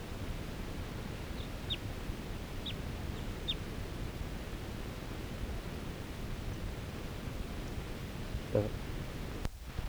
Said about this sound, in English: A wild bird again. And I'm gonna try to get a shot at it. This is the same bird that was tooping before.